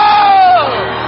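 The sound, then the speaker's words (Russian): A church audience shouts with joy to God, many voices merging into a loud, sustained roar of cheering that rises in pitch, then dips and carries on slightly softer for about a second. “Воскликните Его глазом радости.”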